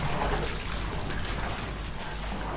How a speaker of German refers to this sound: Szene 1: Wasser treten.